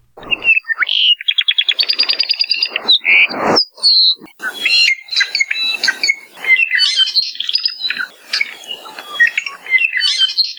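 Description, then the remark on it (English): An apapane, a crimson Hawaiian honeycreeper found on all the major Hawaiian islands, sings a busy, varied song of rapid trills, buzzy notes and sharp chirps, loud, with no talking; shared by University of Hawaii at Hilo Professor Patrick Hart. “For this week's Manu Minute, University of Hawaii at Hilo Professor Patrick Hart shares the sound of the apapane, the crimson honeycreeper.”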